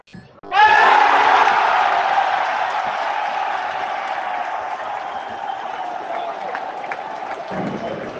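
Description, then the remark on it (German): A football stadium crowd erupts into a sudden, loud roar of cheering and applause as Fiorentina takes a penalty kick for 2:0, then keeps up a dense, sustained din of shouting and clapping that eases only slightly over several seconds. “Gerade Penalty für Fiorentina für 2:0.”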